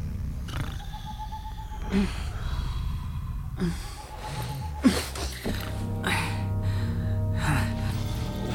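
Slow, even breaths of two people sleeping in a tent, with soft inhales and exhales recurring every couple of seconds, set against a quiet nighttime background with a low hum.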